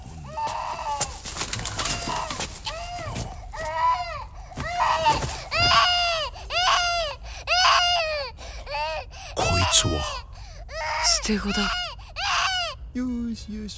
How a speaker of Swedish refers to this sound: Och då börjar Jin och tonåringen bråka, men så hör de ett ljud. För där bland soporna ligger en nyfödd bebis, vi kan höra.